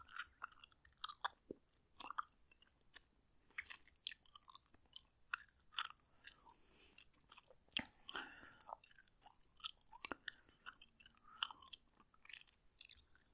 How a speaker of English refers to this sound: What is it you like about bubblegum? There's nothing to be ashamed of. You can tell me. The chewing sounds? Like these chewing sounds?